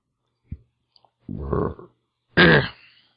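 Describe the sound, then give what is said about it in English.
A loud burp drawn out for about half a second, followed shortly by a shorter, louder and harsher one, with a soft thump and faint clicks before them. No talking. “I say we should all burp for an hour and then post that as a podcast.”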